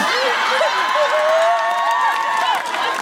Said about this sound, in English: Why are you applauding that? What are you saying?